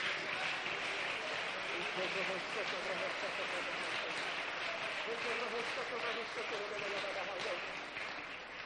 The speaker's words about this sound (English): Let's just clap our hands for a couple of moments.